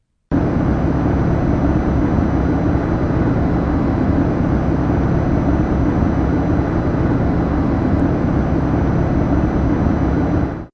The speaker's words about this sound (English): This is basically a mechanical sound. It might be something like the hum of a refrigerator or air conditioner. It is a sound that people said they could hear, but over time they tended to tune it out.